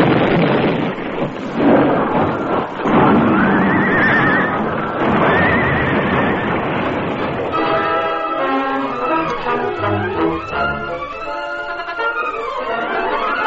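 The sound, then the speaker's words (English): The hooves of two horses, ridden by the masked man and Tonto in a Lone Ranger story, clatter loudly over the heavy wooden planking of a bridge across Crazy Creek amid a rushing, storm-like roar, with shrill whinnies rising above, before the noise gives way to sweeping tonal calls. “The hoofs of both horses clattered on the heavy planking.”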